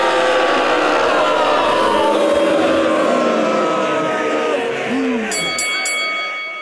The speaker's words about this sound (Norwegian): Gi en stor applaus til Bergens største sønn og den ultimate podcastvert